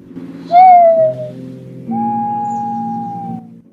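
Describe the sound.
A person makes two owl-like hoots through hands cupped around the mouth as a signal: a short one that slides slightly downward, then a longer, steady note, both mid-pitched over a low background drone.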